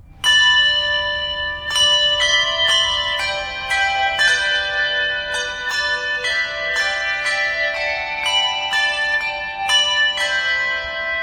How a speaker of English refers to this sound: He's since been promoted to head custodian, and on special occasions, like Easter Mass, he plays in the bell choir.